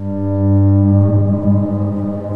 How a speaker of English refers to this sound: And good thing, because you hear a war horn.